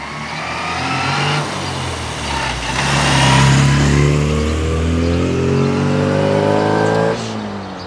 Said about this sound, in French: Le véhicule partit en faisant un énorme bruit.